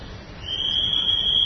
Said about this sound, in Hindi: देखो सीटी बज रही है, पहरेदार घूम रहा है।